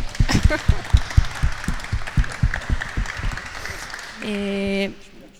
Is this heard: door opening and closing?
no